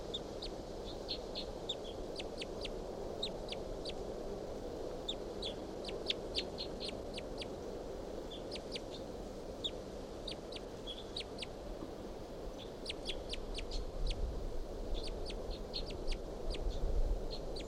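A wild bird calls over and over in bursts of sharp, high-pitched chirps against a steady low rumble of background noise that swells toward the end.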